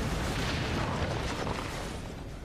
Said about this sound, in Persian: پس شما بگه انفجار اتمی رسیدین؟ این خود مواد اتمی نبوده که منفجر شده، فشار بخار بوده که محفظه رو منفجر کرده.